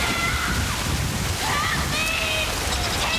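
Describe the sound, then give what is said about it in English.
A steady, loud rush of floodwater sloshing and pouring continuously into a gutter, with faint high squeaky tones riding over the churning flow. “Water pours in.”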